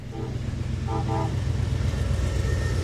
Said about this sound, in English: That's an Amtrak train heading east through Comstock.